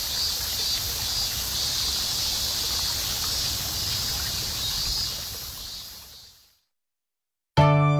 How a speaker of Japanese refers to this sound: 昔からこの一帯には豊富な湧水群があり、昭和の初期まではわさび田も見られたそうです。国立の地域でも貴重な自然環境を有する場所で、心地よい水音を奏でる湧き水は都の名湧水57選に選ばれているのです。